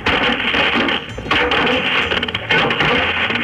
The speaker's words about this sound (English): We're going to play the inside of a dryer for you.